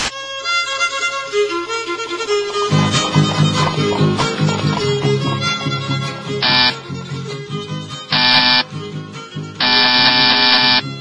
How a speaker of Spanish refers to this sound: ¿Quién es que toca el timbre?